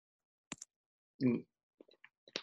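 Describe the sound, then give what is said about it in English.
Keys tapping on a computer keyboard from an unmuted participant in an online meeting, a sparse, irregular run of light clicks with one duller, heavier clack in the middle, quiet, with no voices. “I'm looking here, everybody's pretty much muted, but I'm hearing some keyboard sounds there.”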